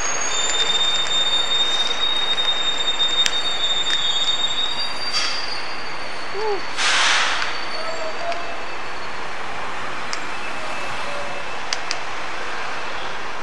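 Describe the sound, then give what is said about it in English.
Train wheels squeal in thin, high-pitched tones over a steady rumbling roar of a moving train, with sharp clanks and a brief hissing burst partway through; no one speaks. “That was squeaky as well.”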